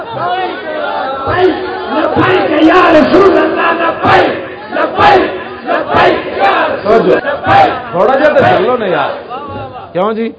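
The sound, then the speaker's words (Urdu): A crowd shouts and yells together in loud, overlapping bursts, many voices rising and falling in waves with sharp peaks of cheering throughout. “ہاں جی اجے تو ہوں سارے چیخ رہے ہیں جی ہمارے لیڈر کے خلاف بات ہو رہی ہے، جی آئی ٹی ہمارے خلاف سازش ہے.”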